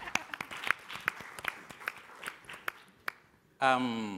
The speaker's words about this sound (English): Ah, please clap for her. A bigger clap for her.